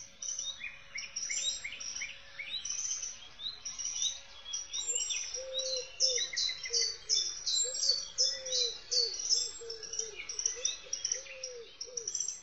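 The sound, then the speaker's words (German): A dense chorus of many birds singing at once on a large forest island, overlapping high chirps and trills from several directions, with a lower cooing call running steadily underneath and no voices. “Es ist eindeutig, wir hören viel mehr Vögel, also eine Insel mit einer hohen akustischen Diversität.”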